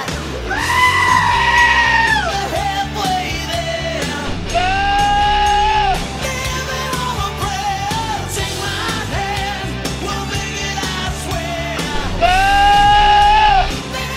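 Loud, drawn-out goat screams burst out three times, near the start, middle and end, each lasting a second or two, over a steady backdrop of full-band rock music with drums and guitars.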